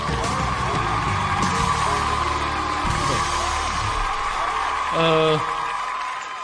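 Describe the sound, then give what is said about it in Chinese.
A crowd claps and cheers to welcome contestant number three in a steady, dense wash of noise, with overlapping voices calling out and a short, loud tonal burst near the end. “让我们用掌声有请三号选手。”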